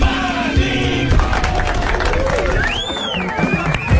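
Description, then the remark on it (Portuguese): Studio audience applause at the start of the show Pânico on Jovem Pan and Panflix fills the whole clip, a dense steady clatter of clapping mixed with cheering crowd voices and a few rising whistle-like tones, loud throughout. “Muito bem, muito obrigado pelos aplausos.”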